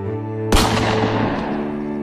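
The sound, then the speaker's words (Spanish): A single loud gunshot from a hunter's gun, fired with a bullet bathed in holy water, bursts in over a low, sustained musical drone, then rings out in a long, echoing decay with no voices. “Un disparo, un aullido, un rezo.”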